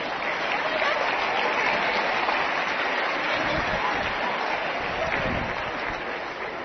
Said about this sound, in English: Isn't this a wonderful showing? I think we ought to give them a hand again.